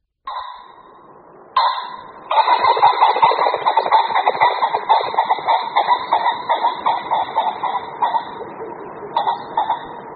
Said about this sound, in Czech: Slyšeli jsme hlasový projev bažantů. Byl to hlas, který se dá slyšet při souboji dvou samců, dvou kohoutů v toku. Bažanti tokají v průběhu března, kdy tento hlasový projev je slyšet skoro opravdu z každé meze.